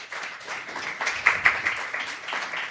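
A small live audience claps for a few seconds when asked to clap if they liked six minutes of talking, a steady patter of scattered hands with a couple of sharper, louder claps in the middle, and no one speaking.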